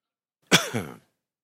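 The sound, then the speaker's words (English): A single harsh cough during a church service that rolls into a rough throat clearing, about half a second long, standing alone against silence. “I think in the second service, I'm just going to bring my cough syrup up here.”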